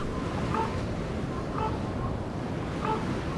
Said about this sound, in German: Vor ein paar Stunden ist der Tag angebrochen und der Wind peitscht unaufhörlich gegen diese nackten Klippen.